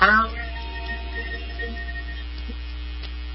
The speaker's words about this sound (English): I'm going to be humming a lot today, so everybody try this out. It's a stress reliever.